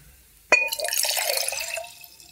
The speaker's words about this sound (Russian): Значит, сюда мы наливаем из стакана водичку. Давайте. Прям полностью.